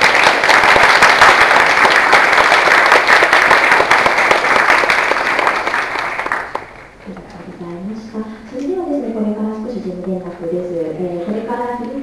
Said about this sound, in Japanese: それではもうまもなくお時間になりますので、以上で講義の方を終了とさせていただきます。先生に拍手をお願いします。